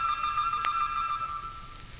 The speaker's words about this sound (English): Now listen to the church bells in the village. And correct me if I'm wrong. That sounds like a nesting dove.